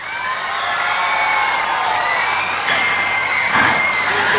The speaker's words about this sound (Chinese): 各位朋友，请以热烈嘅掌声欢迎跟住呢一位我嘅嘉宾